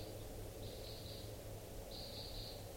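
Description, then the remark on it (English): Type 2 crossbills flying past give flight calls in two brief bursts of thin, high-pitched notes, fairly faint, over a steady low rumbling background with no voices. “I hear crossbills at 746.”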